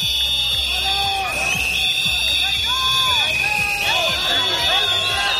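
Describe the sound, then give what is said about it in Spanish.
A dense, loud crowd whistles shrilly and without pause while many voices shout and jeer over one another, booing and shouting 'traitor' at Oriol Junqueras and the Esquerra delegation as they arrive at the floral tribute to Casanova. “Pitos y gritos de traidor para Oriol Junqueras.”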